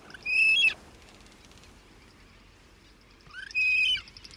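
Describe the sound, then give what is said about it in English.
Two short, harsh bursts of calls from frigatebirds, large black tropical seabirds with a 7-foot wingspan, separated by a few seconds of quiet, fairly loud against a soft background hiss, with no voices. “Soaring above the warm oceans of the world, frigate birds cut a distinctive profile.”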